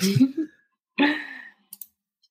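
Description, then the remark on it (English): Two quick, crisp mouse-button clicks, fairly soft, come after a pair of breathy, cough-like vocal bursts with a short silence between; someone is typing and clicking at a computer. “I was supposed to be putting this on mute every time I type.”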